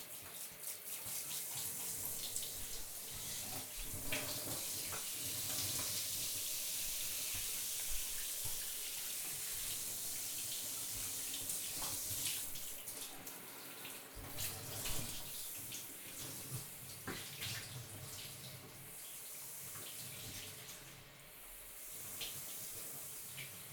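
Steady running water pours and splashes from a tap, a continuous hiss as soap suds are rinsed off someone's back so no foam stays on the body, with occasional sharper splashes and no voices.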